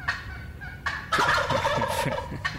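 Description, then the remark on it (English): Wild turkeys gobble loudly, a rapid rattling burst of overlapping gobbles that swells in the middle and trails off with a brief final call. “You would think that settle down, gobble, gobble, gobble, gobble is the only noise they make.”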